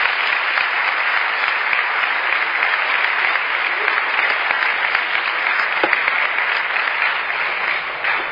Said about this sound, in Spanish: Así que un aplauso, por favor, para el nuevo sargento.